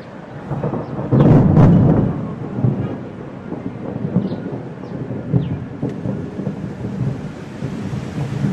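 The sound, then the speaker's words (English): Steady rain hisses throughout, with a loud, deep rumble of thunder rolling in early before the downpour continues alone. No voices. The rain falls in the fertile Ethiopian highlands. “As the rain feeds the rivers in the fertile Ethiopian highlands, famine seems far away.”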